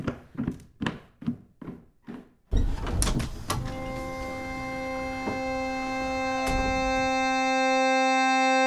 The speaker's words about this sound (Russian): Как только за Витей закрылась дверь